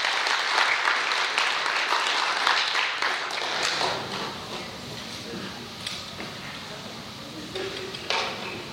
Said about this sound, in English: Ladies, y'all come up and bless our hearts with some songs here. Y'all give them a hand clap of praise tonight. Amen.